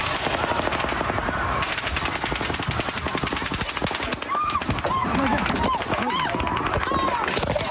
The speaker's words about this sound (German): Plötzlich wurden hunderte Schüsse von oben in die Menge gefeuert.